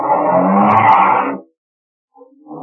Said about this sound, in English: Car starts up again.